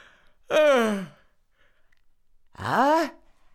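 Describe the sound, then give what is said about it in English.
A voice imitates a waking yawn: two drawn-out, breathy vocal sounds with a sliding pitch, separated by a short pause, fairly loud with no words. “And so all the animals hid in the bush, and after a time, Fox began to yawn and stretch himself awake.”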